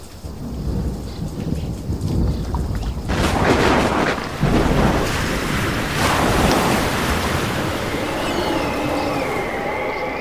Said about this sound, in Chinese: 忽然起了暴风，波浪打入船内，甚至船要满了水。 啊，我身上湿了，哎呀，船都进水了。